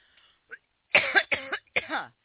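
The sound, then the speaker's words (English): A person coughs three times in quick succession, harsh, each burst loud and raspy, preceded by a brief faint throat noise. “Trying to swallow common core always makes me cough, ladies and gentlemen.”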